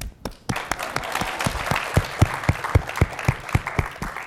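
A room full of people applauds steadily for a few seconds, a dense wash of clapping with a few louder, evenly spaced claps standing out up close.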